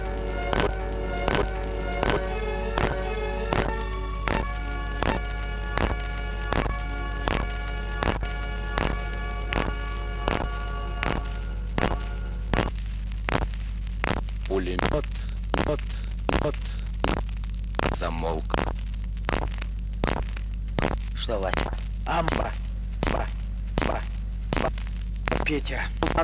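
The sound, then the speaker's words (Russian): Machine gun fire rattles in steady, repeated bursts for the whole stretch, sharp, with a droning tonal sound running beneath the shots during the first half; a gunner fiercely fires back from a machine gun at dawn. “пристально всматривался в синеющую от рассвета где-то покрытую землю и ожесточенно отбивался из-за пулемета.”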